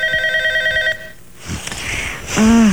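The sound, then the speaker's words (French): A telephone rings once with a steady electronic tone lasting about a second, then stops, followed by rustling noise and a brief voice-like sound near the end. “Téléphone.”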